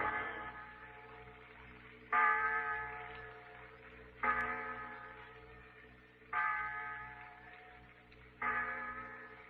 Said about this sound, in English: It's the clock in the insurance tower, Pete. 6 o'clock.